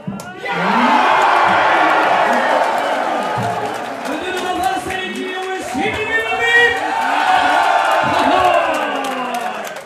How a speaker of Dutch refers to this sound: Nou, die was bijna niet te verstaan door al het geschreeuw op de achtergrond, omdat mensen daar helemaal uit hun plaat gingen van euforie.